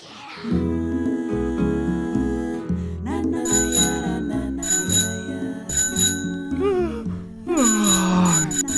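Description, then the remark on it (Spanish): A bell, rung by the show's operator to wake the presenters, rings out repeatedly in bright, metallic bursts, loud, mixed with playful musical tones and a rising sliding note near the end. “Menos mal que el señor operador Nacho nos despertó con su timbre.”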